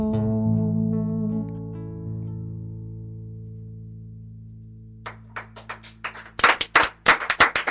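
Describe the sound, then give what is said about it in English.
A held musical note fades out slowly, then a few scattered hand claps begin and quickly build into louder, uneven clapping from several people. “It's so nice that we can clap.”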